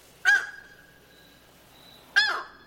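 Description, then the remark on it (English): Two loud, harsh squawks from a yellow-crowned night heron, spaced about two seconds apart, each a short raspy burst standing alone over a quiet background. “Yellow-crowned night herons, too, are equipped with thick, stout beaks, ideal for crunching crabs and a farmer's crawfish.”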